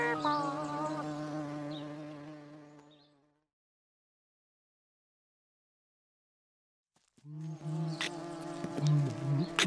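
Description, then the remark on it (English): Steady buzzing of bees with a strong droning hum, fading out after about three seconds, then a stretch of silence before the loud buzzing swells back in. “They buzz in the bushes and buzz in your ear.”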